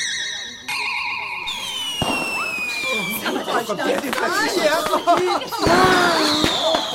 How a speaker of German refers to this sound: Ene Mene Gartenzwerg, es beginnt das Feuerwerk. Hex, Hex!